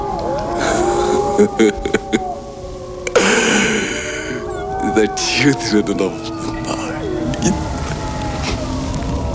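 wolves howling

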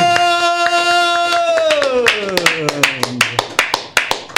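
one person applauding

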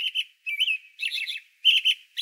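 robin singing

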